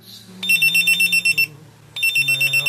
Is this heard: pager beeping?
yes